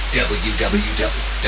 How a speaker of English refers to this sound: Test number three. Wideband test. 20 and 50 hertz plus white noise.